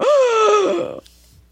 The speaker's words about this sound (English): Did you like that gasp? Did the recorder like that gasp?